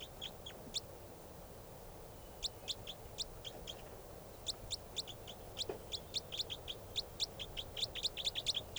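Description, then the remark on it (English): Rapid series of high, sharp chirps from a bird that has just fluttered up, repeating in bursts over a steady background hiss, growing denser toward the end, not loud. “That's the bird.”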